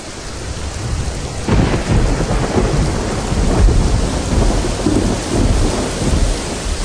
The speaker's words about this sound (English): The rain arrives suddenly and is suddenly gone again.